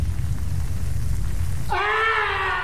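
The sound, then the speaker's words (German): A steady low rumble, like rain or thunder, fills the first part, then a loud, sustained dramatic scream for a murder in the stage play Tatort Soko at its Cologne premiere cuts in, high-pitched and wavering slightly as it holds to the end. “Dramatischer Schrei, also da passiert dann doch noch ein Mord.”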